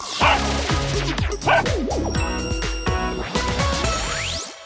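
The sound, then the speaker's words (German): A synthetic, electronic robot dog barks repeatedly in a quick, stepped pattern over buzzing tones, ending with a rising beep sweep, loud with no one talking. “Vielleicht bist du doch nicht so ein guter Wachhund. Naja, während der Dogbot sein Schläfchen macht”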